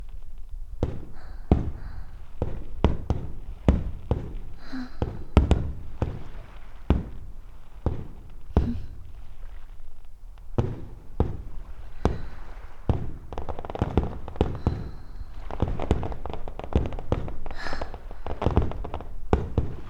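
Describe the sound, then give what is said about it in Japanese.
Fireworks at a fireworks festival burst in a rapid, irregular volley, dozens of booming pops and cracks following one another with little pause, some overlapping, echoing, with no voices. “しかも、花火大会の日だなんて。一体、いくらかかってんだか。ね。花火見ないと、もったいないじゃない。”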